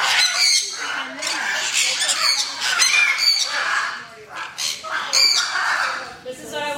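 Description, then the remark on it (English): Many birds in a barn screech and squawk at once in a loud, continuous chorus, with sharp harsh calls overlapping densely, all shrieking together. “Everybody, the barn was so loud today. Oh my gosh. I have recordings. I recorded some of the craziness.”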